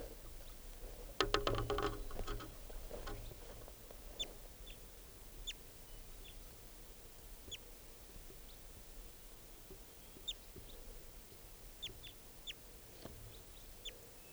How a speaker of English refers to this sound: Recording that wild bird.